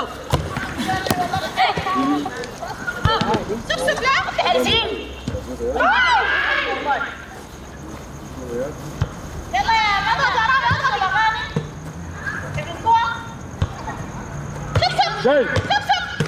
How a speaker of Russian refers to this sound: Ты мяч-то веди. Продолжай вести.